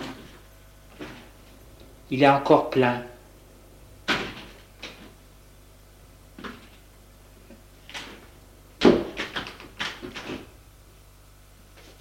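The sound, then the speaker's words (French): A running refrigerator in a kitchen is opened, with a few clicking, knocking sounds and a soft rattle, followed later by more thuds and bumps as a voice speaks briefly. “Le réfrigérateur marche. Il l'ouvre.”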